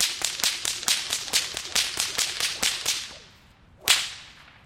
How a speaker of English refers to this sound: I'm going to try and break a world record. Okay. So the world record is most whip cracks in a minute. The record is 257 cracks, 4.2 cracks per second, 2.1 cracks per half second, 8.4 cracks per 2 seconds.